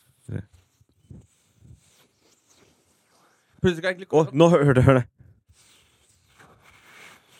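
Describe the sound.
A faint, thin, high-pitched whistle from air being sniffed in through a nostril, heard after a short stretch of someone talking, with soft breathy noise and a few light knocks.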